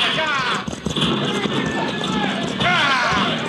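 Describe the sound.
Horses' hooves clatter steadily and loudly at a brisk pace as horse teams are driven through opened gates into a mission yard and circled, a dense rhythmic pounding that fills the whole stretch, with voices calling out over the racket.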